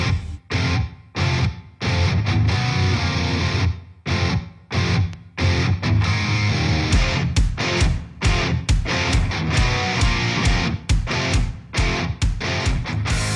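A loud rock track, the title song of a band's album, played on Rock Antenne radio, with heavily distorted electric guitars and pounding drums, punctuated by abrupt stop-start breaks in the opening seconds before settling into a steady, driving full-band groove.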